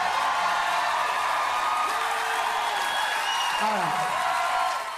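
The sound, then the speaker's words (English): A large crowd cheers and applauds steadily for a Thanksgiving song, a dense wash of clapping with scattered whoops and shouted voices rising above it, holding loud throughout before easing slightly at the end. “That crowd is really hot for the Thanksgiving song.”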